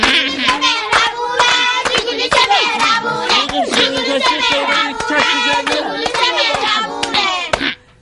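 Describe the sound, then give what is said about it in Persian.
Steady, rhythmic hand clapping keeps a quick beat through the whole stretch, mixed in with bright, tuneful singing voices, then stops abruptly near the end. “بابایی تشویقش کنی.”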